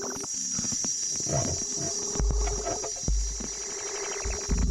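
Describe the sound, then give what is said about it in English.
A frog-pond soundscape made with an 808 and a guitar, with croaky plucked guitar tones over a steady shrill chirping drone, punctuated by a few deep, booming bass thuds. No one speaks. “I believe he used an 808 and a guitar. Make himself a sweet frog pond.”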